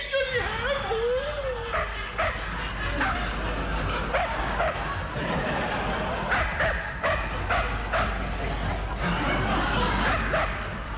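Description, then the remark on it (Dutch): A small dog barks and yaps over and over, fairly loud, the sharp barks tumbling out in quick irregular bursts over a busy, noisy background for about ten seconds. “Hier is mijn kleine hondje.”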